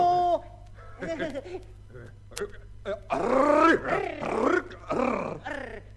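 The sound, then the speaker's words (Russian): A series of deep, menacing growling roars, loud, rising and falling in rough bursts with short pauses between, likely a voice imitating an animal. “А почему вы на меня так страшно рычите?”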